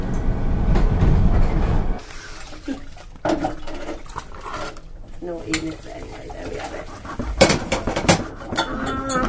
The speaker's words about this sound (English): This is a Vinkaloo Line train to Elephant and Castle. Please stand clear of the doors.